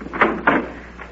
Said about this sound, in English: Here's Father's room. He's usually a very light sleeper. I'll open the door